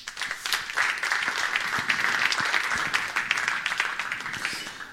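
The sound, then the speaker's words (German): Audience applause welcoming a speaker, a dense, steady patter of many hands clapping at moderate volume for several seconds without pause. “herzlich willkommen, Pascal Fouque, mit einem kleinen Applaus”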